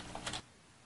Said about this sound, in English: If we knew how many times we'd be typing that, we may have gone with a shorter name.